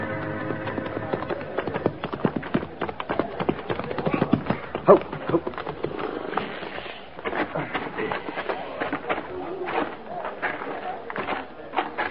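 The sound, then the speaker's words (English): Horses' hooves clip-clop steadily and irregularly for the whole stretch, a dense clatter of many overlapping hoofbeats at a moderate, even loudness, with no clear talking. “I'll see to the horses, Captain.”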